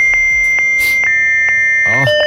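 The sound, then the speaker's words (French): A voice imitating a fax modem: a steady, high electronic-sounding tone with evenly spaced clicks, a brief hissy burst, then warbling, sliding squeals near the end. “C'est très dur à faire le bruit d'un fax.”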